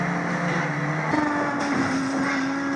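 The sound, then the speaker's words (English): A video game car engine, a Beetle, drones steadily at high volume, its pitch jumping up partway through as if shifting or accelerating, with a dense, buzzy whine filling the whole stretch and no talking. “Coming after you with my lowly Beetle.”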